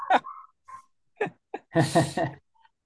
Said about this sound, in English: There's the dog barking that you talked about.